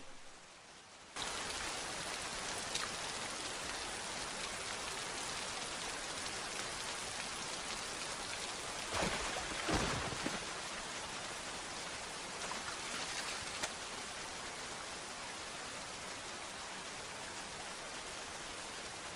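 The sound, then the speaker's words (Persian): Heavy storm rain pours in a steady, dense roar after a quiet first second, with a few brief louder surges near the middle. No voices are heard. “توفانو درست کردی تا ما رو توی ساختمون گیر بندازی، درسته تایفون؟”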